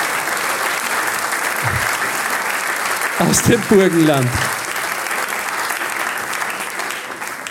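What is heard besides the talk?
audience applause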